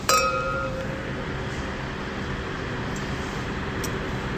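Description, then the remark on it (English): Wine glasses of Tansy Vermentino clink once in a toast at A16 in Napa, a bright ring at the start that lingers for a moment before fading into a steady, low background hum. “Cheers to you. Thanks to the Tansy Vermentino.”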